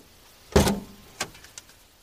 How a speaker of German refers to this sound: Genau, und vorher wollte Papa noch nach dem Öl gucken. Deswegen hat er kurz gewartet und dann vorne die große Klappe am Auto aufgemacht.